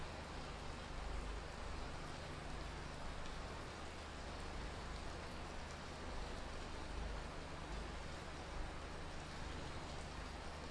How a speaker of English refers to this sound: The rains have come.